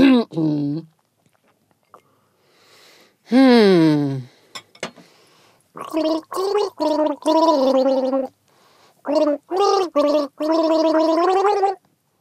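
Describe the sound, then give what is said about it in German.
A person gargles a pop song melody, the bubbling, wavering pitch rising and falling in a series of sung phrases separated by short pauses, fairly loud. “Was für ein gemeines Gurgeln.”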